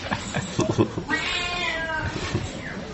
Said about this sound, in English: Guy is so enthusiastic. He talks so much. I haven't seen cats that talk as much as this one.